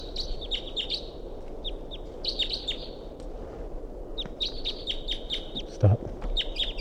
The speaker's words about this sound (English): The bird's gone now. Stop. They're calling it. Wild bird's coming back.